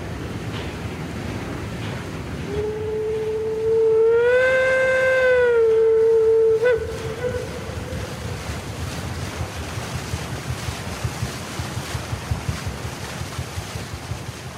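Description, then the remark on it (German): A steamship on Lake Lucerne (Vierwaldstättersee) sounds its horn in one long, steady low blast with rich harmonics, rising slightly in pitch midway, over a constant wash of water and wind that continues after the horn stops. “oder auch einfach mit Klängen, zum Beispiel ein Dampfschiff auf dem Vierwaldstättersee.”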